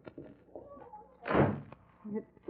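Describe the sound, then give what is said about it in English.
A door swings shut with a single heavy thud that briefly rings out. Faint voices and small movements sit before and after it. “Close that door.”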